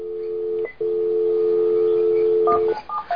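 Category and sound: signal or alarm, telephone dialing tones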